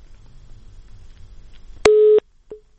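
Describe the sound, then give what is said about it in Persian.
A steady electronic busy tone sounds after low line noise when a caller's phone line drops during a call-in programme: one loud sustained beep lasting about a third of a second, then a brief fainter blip as the next begins. No one speaks. “متاسفانه مثل اینکه تلفن آقای سپند قطع شده، در اتاق فرمان دوستانم در تلاش هستند، همکارانم که این ارتباط رو برقرار کنن.”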